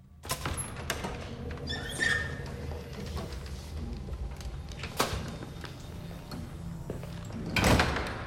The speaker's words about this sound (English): The corridor shrouded in shadows and papers litter the floor. Rick makes his way to a set of double doors at the end and heads through.